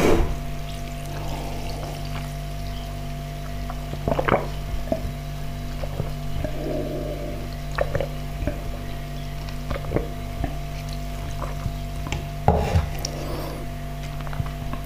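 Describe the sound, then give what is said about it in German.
Water pours from a bottle into a cup in short, uneven splashes and trickles, fairly quiet, over a steady low electrical hum, with no one speaking. “So, sollte aber auch nur ein Becher Wasser sein, weil zwei Becher Wasser.”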